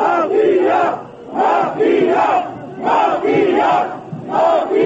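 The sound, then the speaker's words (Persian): A large anti-government protest crowd chants slogans of "resign" and "murderers" at police in unison, loud rhythmic bursts of massed voices repeating roughly every second, with brief dips between phrases. “اعتراضگران با شعارهای استعفا و قاتلان به سوی پلیس که برای بردن نمایندگان مردمی اتوبوس‌ها را به میدان آورده بود سنگ پرتافتند.”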